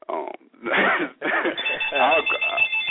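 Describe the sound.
A telephone rings with a steady, high-pitched electronic trill. It starts partway through and continues under people talking over it.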